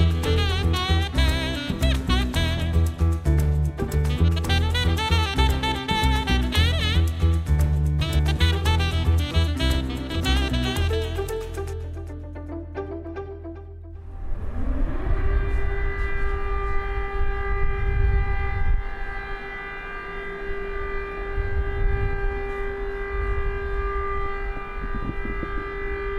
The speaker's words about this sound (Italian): Questa è una sirena antiaerea. Da quando è iniziata la guerra, questo suono accompagna la vita degli ucraini. All'inizio, a sentirlo, ti gelava il sangue. Le persone correvano nei rifugi.